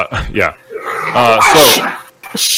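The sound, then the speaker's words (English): A dog named Sophie whimpers and barks in a run of high, whiny yelps and cries that rise and fall in pitch, fairly loud, ending with a short sharp burst after a brief pause. “Hey, you keep your dog calm out there.”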